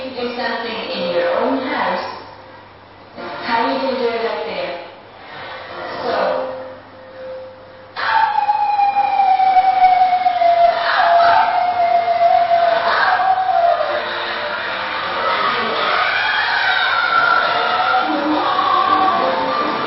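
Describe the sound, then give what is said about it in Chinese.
A group of worshippers at a charismatic church gathering howl and wail like wolves in long, sliding cries, first in broken bursts, then as a loud, continuous crowd din with drawn-out falling howls over it. “主神有点像他说，特别像一个这个狼样的嚎叫。”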